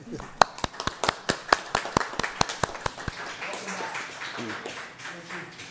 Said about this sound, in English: All right. Now we can applaud, I guess.